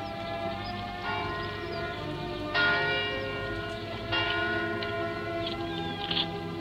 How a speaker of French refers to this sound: L'Angélus qui sonne à Rouen. La ville aux toits bleus, là-bas pleine de cloches dont la brise m'apporte la voix.